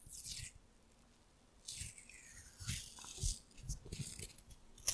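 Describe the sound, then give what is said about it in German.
Adhesive tape is peeled off in several crackling pulls and torn, bursts of raspy noise separated by brief quiet gaps, with no one speaking. “Also, deswegen auch bei dem, als du das Band da abgezogen hast, dein Klebeband, ich musste dann auch noch hören, dass du es auch abreißt.”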